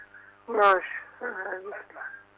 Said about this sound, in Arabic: اخفض التلفاز واسمعني من الهاتف.